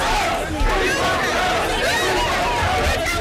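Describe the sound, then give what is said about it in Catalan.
A dense crowd of journalists and supporters shouting and chattering, with cries of "Free Palestine", as a rapper enters Westminster Magistrates' Court in London in the morning: a loud, continuous overlapping babble with raised voices cutting through, steady throughout with no clear pauses. “entrava al Tribunal de Magistrats de Westminster, envoltat per un núvol de periodistes i de simpatitzants.”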